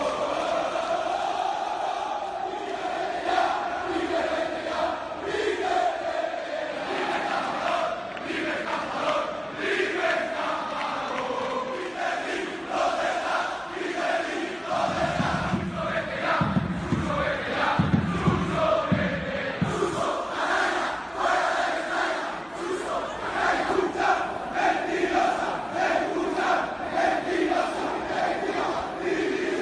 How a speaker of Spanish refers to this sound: Antes, durante y después del partido, la afición ha pedido la marcha de Peter Lim. Ha habido gritos contra García Pitar también, contra los jugadores, les han llamado mercenarios, pero sobre todo, por encima de todo, gritos contra Peter Lim.